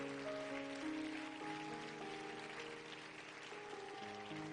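A church audience claps steadily for the church leadership and ministry in a dense, continuous patter of applause one morning, while sustained organ-like chords hold and shift underneath the whole time.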